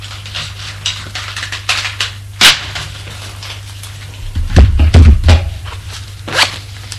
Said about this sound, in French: Il met en vrac ses dés. Il regarde pas. Lesquels, de toute façon, on les aime tous.